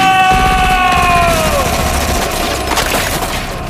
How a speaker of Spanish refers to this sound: ¡Alguien dijo balazo!